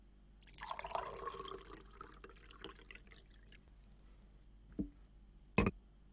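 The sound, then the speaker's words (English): Coffee pours steadily from a pot into a cup for a couple of seconds, the gurgle rising in pitch as it fills, then trickles off before two sharp clinks ring out. “I'd be right happy to pour you some.”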